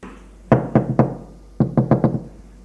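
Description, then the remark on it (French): Knuckles rap on a son's bedroom door as his father knocks one afternoon: three firm knocks, a short pause, then four more in quick succession, loud and sharp with no voices. “Le lendemain après-midi, coup de froid frappe à la porte de la chambre de son fils.”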